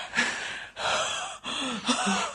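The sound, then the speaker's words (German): Three breaths in a row, each a broad airy rush with a brief pause between, like gasping inhalations; no one speaks. “Grinst nicht so, man hört dich atmen.”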